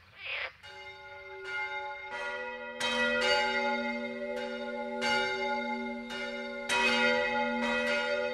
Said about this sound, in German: Sehr gerne geklagt wird in Deutschland auch gegen Kirchenglocken. Aber die sind nur bedingt abschaltbar. Das sakrale Läuten ist von der Religionsfreiheit geschützt.